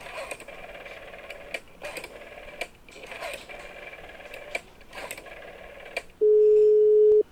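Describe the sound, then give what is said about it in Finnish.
A telephone call being placed to the electricity company: a series of soft mechanical clicks and rustles, then a loud, steady electronic ringing tone on the line for about a second near the end. No one speaks. “Minä soitan voimajohtoyhtiöön. Hetkinen.”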